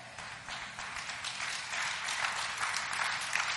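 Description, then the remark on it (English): A crowd applauds steadily, a dense wash of many hands clapping at once that swells slightly louder toward the end, with no voices standing out. “And some of you ain't clapping, I understand.”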